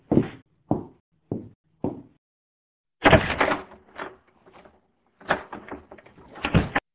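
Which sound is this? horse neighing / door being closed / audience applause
door being closed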